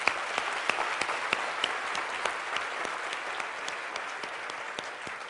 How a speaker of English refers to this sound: So we are, yes, let's give applause there.